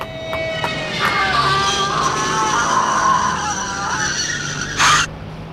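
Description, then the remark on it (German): A car races forward with a whining, screeching tone for several seconds, ending in a short, loud impact as it hits a woman who ran blindly across the street into its wheels. No one speaks. “Sie ist ihm direkt unter die Räder gelaufen, Sir.”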